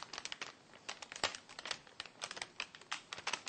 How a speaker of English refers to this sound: So we'll just carefully and slowly take this parchment paper off. And you might also want to let them cool for a minute so they firm up a bit.